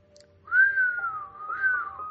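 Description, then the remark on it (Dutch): Edmund whistles through his teeth, a breathy steady tone that falls slightly, dips, then swells again in a second phrase, sustained for about a second and a half with no talking. “Edmund vloot tussen zijn tanden.”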